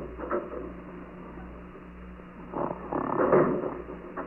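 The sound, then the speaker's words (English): Heavy, rasping snoring from a man lying on the concrete floor of a jail drug tank, with rough rumbling breaths over a low steady hum, swelling into a louder, drawn-out snore toward the end. No one speaks. “He lies snoring heavily on the concrete floor, stripped of his tie, belt, and shoes for his own safety.”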